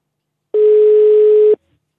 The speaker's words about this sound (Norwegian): Nå ringer det. Tenk om det er hun, da.